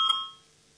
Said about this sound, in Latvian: Lūdzu zvanu, balsosim par 13. juridiskā biroja priekšlikumu.